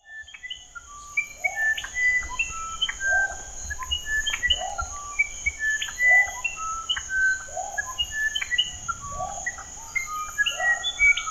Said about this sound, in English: It's found in the Amazon rainforest, and there is a musician wren call, and I want you to listen to the difference between its call and its song, because it's quite remarkable. So here's the call. And here's the song.